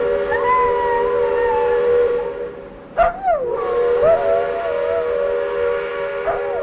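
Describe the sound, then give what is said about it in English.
Jimbo, the general store's dog, howls in long wavering tones alongside a sustained, multi-toned steam train whistle blown by Engineer Nichols as the train comes through, the two pitches sliding and blending together, with a brief sharp burst midway and no speech. “And Jimbo always howled when the train came through and Engineer Nichols blew his whistle.”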